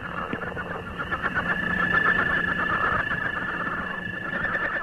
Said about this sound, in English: Here's one of my personal favorites, the northern leopard frog.